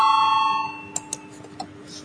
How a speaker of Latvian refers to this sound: Deputāti vēlas balsojumu. Lūdzu zvanu balsosim par 19. deputāta Vucāna iesniegto priekšlikumu.